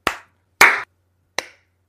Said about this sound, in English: All right, so we're all recording? Yes. Okay, I'll start the clap.